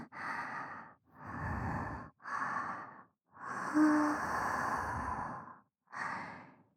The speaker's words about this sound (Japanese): 吐息どんどん熱くなる。愛しいお前様に触れていると、熱く荒く乱れていく。